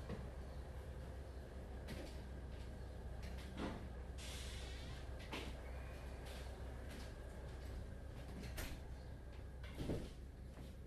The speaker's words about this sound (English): Let's go ahead and close the doors. It's a little loud.